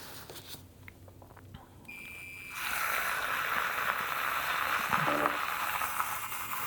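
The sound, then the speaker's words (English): A milk frother, mixing a drink after a tablespoon of pumpkin is poured in, starts with a thin, high whine, then settles into a steady, hissing whir that keeps going without a break to the end. No one speaks. “Retrieve our trusty frother again.”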